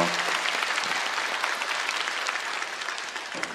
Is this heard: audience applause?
yes